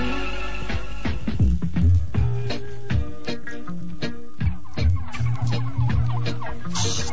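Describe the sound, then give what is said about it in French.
Several turkeys cluck in short, overlapping bursts while being fed in a garden, a busy irregular chatter that keeps going throughout with no voices. “Oh, docteur, oh, c'est la meilleure fois que vous nourrissez vos dindons depuis que je vous regarde.”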